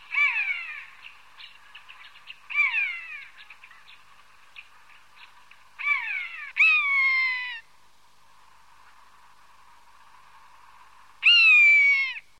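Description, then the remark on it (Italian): A common buzzard gives five loud, mewing, downward-slurred cries at irregular intervals, the last coming after a long pause, with faint background chatter from other birds. “Altra specie presente è la poiana.”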